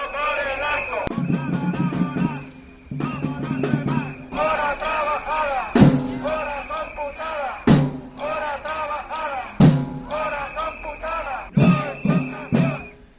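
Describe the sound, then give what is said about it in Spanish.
About a hundred protesting doctors chant and shout in loud, rhythmic bursts at the doors of the Consejería de Salud on Ronda de Levante this morning, with sharp percussive hits punctuating the steady, repeated cadence of the collective chanting. “En primer lugar, para que nos hagamos una idea, esto es lo que se podía escuchar esta mañana en las puertas de la Consejería de Salud, los cánticos y gritos de aproximadamente un centenar de médicos.”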